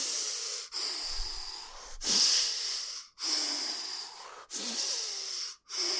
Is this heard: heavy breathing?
yes